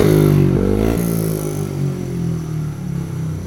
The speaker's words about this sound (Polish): Te maksymalne obroty to w motocyklu Krzysztofa Kasprzaka. Widziałem bardzo długo dzisiaj, próbowałeś, testowałeś